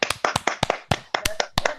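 A short burst of applause after a performance of 'Bella ciao' by a singer on the talk show Les Artistes ont la parole: a small group clapping in a brisk, slightly uneven patter of sharp, crisp hand claps, moderately loud, with no voices over it.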